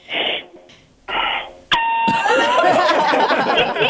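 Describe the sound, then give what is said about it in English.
An elevator's weight capacity alarm, in an elevator with a lot of people on it, sounds as a steady, loud electronic buzzing tone that cuts in suddenly after two short bursts of rustling noise, then keeps droning under a busy, noisy background. “That might be the alarm for the elevator. Is it capacity? The weight capacity, maybe.”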